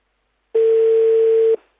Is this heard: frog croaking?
no